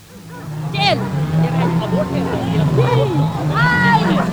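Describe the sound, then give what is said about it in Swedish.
A steady, droning motor whine of chainsaws starting up during the 1971 elm tree dispute in Stockholm, while a crowd of voices shouts and calls over it in a loud, agitated outdoor scene as police clash with the crowd. “Ja, nu har alltså motorsågarna börjat och nu är läget verkligen allvarligt här.”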